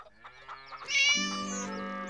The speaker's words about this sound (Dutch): Het is de poesmauzie.